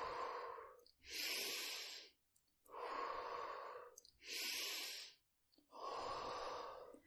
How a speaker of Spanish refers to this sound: Diez últimas respiraciones. Intenta darlo todo. Inhala profundo. Exhala.